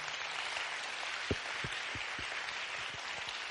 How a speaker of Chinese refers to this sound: 哎，拍手把荣耀归给他吧。